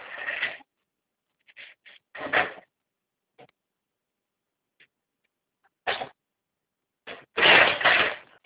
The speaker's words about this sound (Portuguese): Vou tirar essa escada daqui agora.